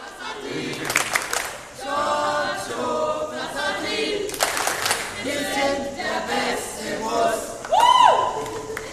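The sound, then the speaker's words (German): A bus group from Augsburg on a long-distance trip cheers and shouts together loudly, voices overlapping in sustained whoops for several seconds, with a sharp high whistle or shriek near the end. “Augsburg, Langfahrt, einen Jubel bitte.”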